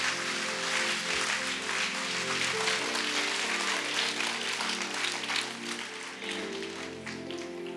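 A church audience claps for the blood of Jesus Christ during a sermon, a dense, continuous burst that holds steady for several seconds, with sustained low musical tones humming underneath.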